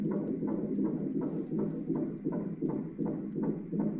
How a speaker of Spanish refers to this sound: Ah, esto es el latido de un corazón de un bebé. De mi bebé, porque estoy embarazada. Estoy embarazada, hoy cumplo 13 semanas, estoy embarazada de 3 meses.